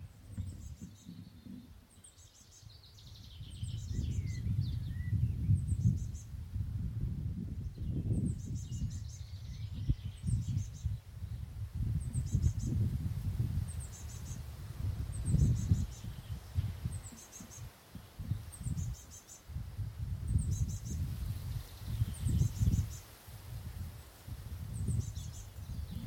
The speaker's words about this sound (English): Oh, that's lovely, that, isn't it? Those birds and everything. Let me get a bit closer, see if you can hear them.